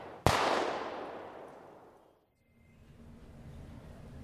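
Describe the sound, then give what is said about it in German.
A single loud gunshot cracks sharply, its boom rolling away in a long fading echo over about two seconds, followed by a quiet low rumble. “Dann fielen Schüsse.”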